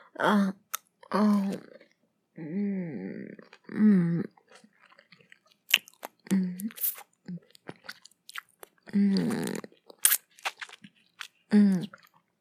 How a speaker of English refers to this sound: God, it's so fucking juicy. Okay. Sorry, I'm chewing.